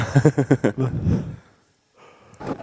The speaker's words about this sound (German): Was war das? Du hast gegähnt und musste ich auch.